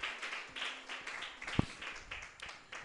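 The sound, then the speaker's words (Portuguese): An audience applauds Jesus at an evening church service in a steady, dense wash of clapping that carries on for the whole stretch, with one brief low thump partway through and no voices. “Pode aplaudir Jesus nesta noite.”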